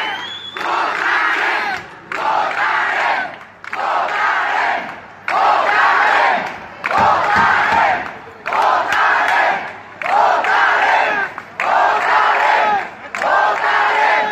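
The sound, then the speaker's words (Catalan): A large crowd of residents of Móra Nova around the Pavelló Firal chants "votarem" at arriving police, over and over in loud, rhythmic bursts, each shout lasting about a second with brief pauses between, the voices massed and forceful. “escoltem un breu so de com van rebre els veïns de Móra Nova que estaven en aquell moment al voltant del pavelló Firal la visita de la policia amb aquest crit de votarem, no?”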